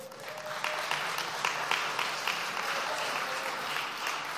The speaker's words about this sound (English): You're busy clapping.